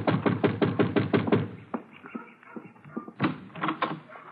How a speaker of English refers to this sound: Yeah, you better knock again.